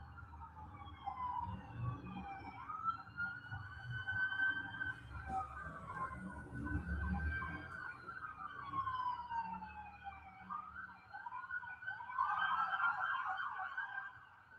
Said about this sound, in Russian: Последняя была полицейская машина. Вообще, я такое редко наблюдаю. Проехала машин 20. Прямо машин 20.